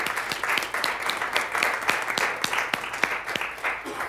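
A crowd applauds a couple marking 49 years together, with many hands clapping in a dense, sustained patter and a few sharper claps standing out, holding at an even moderate level throughout without any talking.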